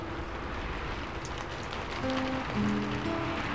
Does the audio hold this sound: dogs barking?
no